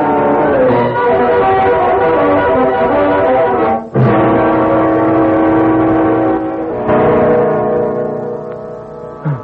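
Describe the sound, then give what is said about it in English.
A harsh electric doorbell buzzer at Johnson's home drones loudly in long, steady presses, broken by two brief gaps before trailing off, with no voices over it. “That's your doorbell, Johnson. Oh, yes. The doorbell.”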